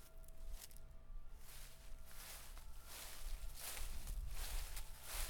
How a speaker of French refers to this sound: Alors, le jeudi 19 octobre après-midi, nous sommes partis à l'Arboretum de Châtenay-Malabry pour faire une carte postale sonore, c'est-à-dire enregistrer des sons, plus précisément celles de la nature, comme des feuilles en mouvement.